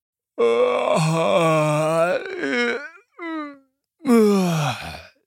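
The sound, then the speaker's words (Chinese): A voice imitates a grizzly bear father climbing out of bed with a loud, drawn-out groaning moan, rising and falling in several long, low, harmonic-rich swells with brief breaks, ending on a final descending groan. “灰熊爸爸爬下床，用熊吼大大的哀了一声。”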